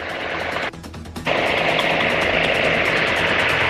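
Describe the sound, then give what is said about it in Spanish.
A heavy crane engine runs loud, a steady rumbling drone with a rough mechanical rattle that briefly drops off before surging back at full strength, as the crane works to lift an overturned truck at Puente 5, Puente Pasado, with traffic cut both ways. No voices are heard. “Ahora ahí está la grúa trabajando y está el tránsito cortado por ambos lados para que pase aviso a toda la locomoción, vehículos que se mueven por este sector.”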